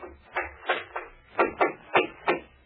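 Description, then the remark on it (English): Hammering in the outer office of a new office, with about eight sharp, thudding blows struck in an uneven rhythm, each ringing briefly before the next. Moderately loud, with no voices. “Race at his desk trying to concentrate as a hammering comes from the outer office.”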